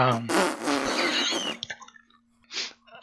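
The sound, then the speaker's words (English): Loud, raspy fart noises blast in a long sputtering run like a mock trumpet fanfare, then trail into a thin held drone and one last short burst. “triumphal trumpets, except that they're farts.”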